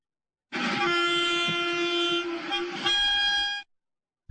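A train horn blares loud in one long, sustained blast lasting about three seconds, its tone shifting slightly near the end, with the rumble of the passing train underneath.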